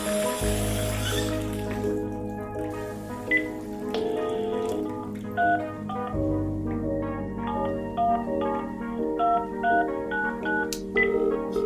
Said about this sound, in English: I'll call the front desk and you can turn off the water.